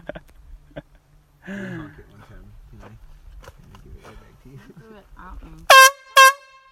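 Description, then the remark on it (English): Two loud, brassy air horn blasts in quick succession, each under half a second, blaring sharply after a stretch of people talking and moving about. “If they take bear spray, an air horn would probably be like.”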